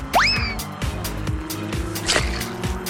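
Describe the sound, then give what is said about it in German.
A small yellow toy race car zooms past and takes the lead, with a quick rising whine over a steady engine drone, joined by a few soft thumps and clicks. No talking. “Der gelbe Racer zieht vorbei und übernimmt die Führung.”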